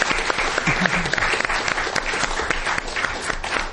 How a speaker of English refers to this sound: If we could give them another round of applause.